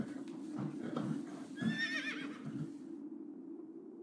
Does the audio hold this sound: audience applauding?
no